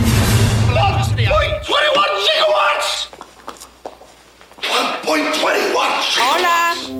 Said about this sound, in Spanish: No está grabando. Me encanta porque sueltas el gritote cuando ya empieza a grabar, entonces se escucha, seguramente se va a escuchar cortado el hola, hola. Oh, no, ahí lo editas.